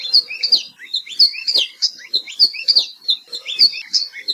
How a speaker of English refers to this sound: Nowadays, the best place to see aloa hio and hear their warbling song is at Hosmer's Grove at Haleakala National Park and also Polipoli State Park.